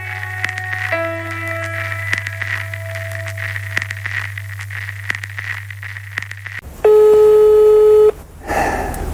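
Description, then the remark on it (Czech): A low electronic hum with faint tones runs under most of it, then a single loud, steady telephone ring tone sounds for just over a second before a brief burst of noise. “Zvoní to tam?”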